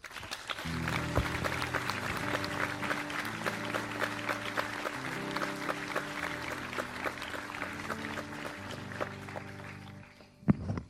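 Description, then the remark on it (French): Loud, sustained applause from a large audience welcoming a guest lasts about ten seconds, with upbeat music playing underneath, before dying away with a brief knock at the end. “Mesdames et messieurs, merci d'applaudir très fort”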